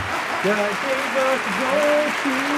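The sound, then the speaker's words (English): An applause sound effect: a steady wash of clapping fills the whole stretch at a fairly loud, even level, with a voice sounding over it in short tonal phrases. “I accidentally found applause.”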